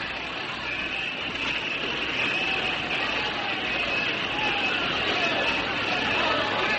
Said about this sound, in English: Such a great crowd of people. They are here to welcome you, Madame. Just as it has been ever since we arrived in Australia.